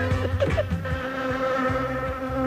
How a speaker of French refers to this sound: Il y a une mouche, là.